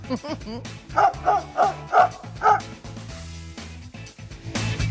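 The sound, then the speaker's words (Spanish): A dog, Bondi, barks five times in a quick, evenly spaced, loud burst over a steady low background hum that carries on after the barking stops. “Fede en Twitter dice que su perro, Bondi, haría un meme con la foto del veterinario.”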